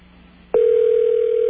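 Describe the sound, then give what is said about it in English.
A steady telephone ringing tone from a call to a New York State Department of Health HIV counseling line starts abruptly about halfway through and holds unbroken to the end, clear and fairly loud over a faint low hum, with no talking. “Okay, that one is ringing.”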